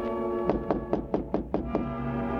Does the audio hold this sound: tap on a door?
yes